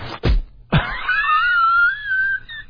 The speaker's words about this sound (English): Is that a door shutting? It's supposed to be a person getting punched in the stomach. It doesn't translate at all. We can barely hear it.